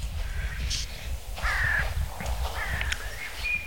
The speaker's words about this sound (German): Alle Vögel sind natürlich schon wach, logisch. Und hellauf begeistert.